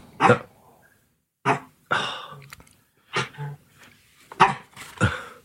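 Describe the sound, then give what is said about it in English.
A small female dog grunts and huffs in short, gravelly bursts, about six of them spaced unevenly, fairly loud, as she hangs off and tugs at a squeezy ball. “You think for a little dog like that, she's hanging off this sort of squeezy ball, and now she's...”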